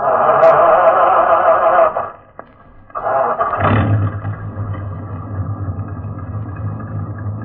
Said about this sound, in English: Start your engine, Sergeant.